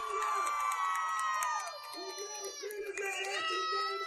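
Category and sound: human body sound, child screaming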